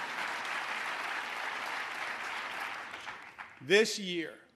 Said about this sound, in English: But you should keep applauding. I didn't mean to interrupt you.